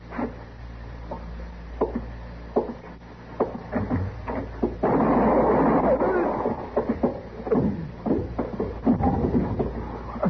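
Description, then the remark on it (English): A series of sharp, cracking gunshots rings out at irregular intervals, with a dense burst of rapid fire and commotion in the middle, over a low steady rumble, as a man is shot before he gets out the door. “they shot him before he got out the door.”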